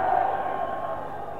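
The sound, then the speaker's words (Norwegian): An audience claps together in a steady, dense wash of applause that holds at an even level throughout, with no voices over it. “For øvrig takker jeg for applausen.”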